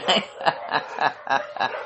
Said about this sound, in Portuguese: Bom, como vocês podem ouvir, os cachorros da vizinhança estão bem ativos.